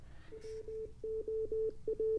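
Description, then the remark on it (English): Morse code from a radio receiver: a single steady pitched tone keyed on and off in short and long beeps, fairly quiet, over a low background rumble and hiss. “And maybe we should be able to hear some Morse code.”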